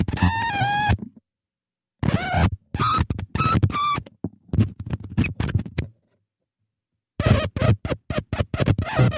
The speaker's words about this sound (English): So when the two touch, they vibrate and the speaker just like vibrates, you know, immensely. And it kind of creates its own, it's not really audio feedback, but it's electronic feedback.